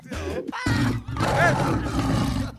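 Loud, rumbling roars of hungry lions fill the whole moment: deep, growling bursts that surge and swell, with a brief dip before a longer, rasping roar carries through to the end.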